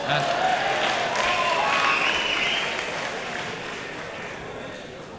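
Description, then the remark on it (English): A large audience at a Young America's Foundation Fred Allen Lecture Series event at LMU claps steadily in a dense wash of applause, loud at first and gradually tapering off over several seconds, with a few faint cheers mixed in. “Well, I don't know if you guys are clapping because of Ben Shapiro is going to come out in a few minutes, or because I'm going to be graduating in like a month and you don't have to see my face here again.”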